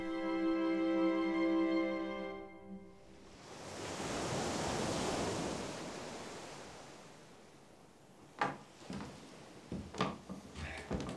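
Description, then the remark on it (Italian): After a brief sustained musical tone fades, a broad wash of sea waves swells and recedes on a sunny beach on a summer day, with wind buffeting and a few sharp gusty crackles near the end. “Sole, vento, mare, sabbia.”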